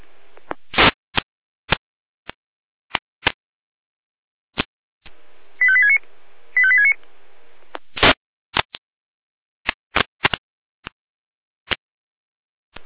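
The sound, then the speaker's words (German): A radio alerting tone sequence from the Jena dispatch centre, alerting fire units to a severe weather situation: two short bursts of rapid, stepped high beeps over a steady hiss, framed by sharp, irregular radio clicks and crackles before and after. “Leitsche Jena, Alarmierung.”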